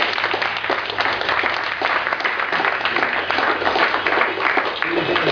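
Steady, sustained audience applause for the editor: dense overlapping claps forming a bright, continuous wash of sound at an even level for several seconds, with no voices standing out.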